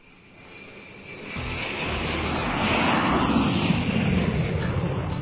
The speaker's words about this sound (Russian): В предновогодних небесных просторах спешил в Ленинград рейсом номер 392 самолет Ту-134.